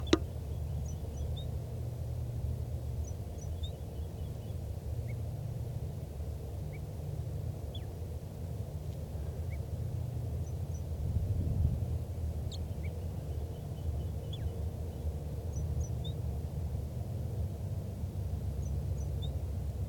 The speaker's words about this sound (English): Start recording again, that wild bird in soft song.